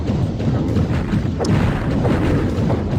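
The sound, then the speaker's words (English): Shooting sounds from a side-scrolling video game: a dense, booming low rumble with several sharper bursts cutting through, loud and steady throughout, with no voices. “Coming up here, you hear like a shooting sound.”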